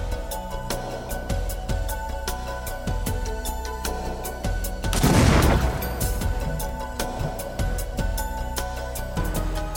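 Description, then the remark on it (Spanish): The final explosive package, set off so students can investigate the evidence, detonates in a loud, rumbling blast midway, surrounded by a rapid, irregular string of sharp cracks and pops, like a crackling fusillade. “Después de las explosiones, los estudiantes se dividen en equipos.”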